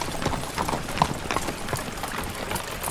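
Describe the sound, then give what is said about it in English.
Horse team hooves clip-clop in a steady, overlapping rhythm of sharp knocks over a low rumbling background, with no voices. “When they finally were forced to stop for the night, Holt reined up the teams along a creek that flowed through a valley.”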